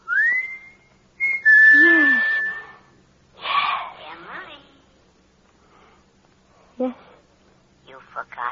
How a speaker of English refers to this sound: When he used to roll to the bottom of the hill and wait for you, and you could stand in the orchard until you heard him whistle.